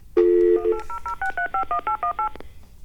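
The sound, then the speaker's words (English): A burst of touch-tone dialing: a steady dial tone, then about ten quick, evenly spaced beeps as the number of a drug screening phone line is punched in, clear, with no talking. “Let's call the bad lottery number.”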